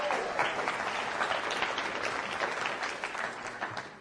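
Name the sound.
audience applause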